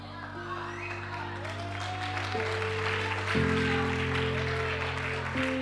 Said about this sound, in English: No, clap. You didn't know that. I'm sure you didn't know that. Just clap properly.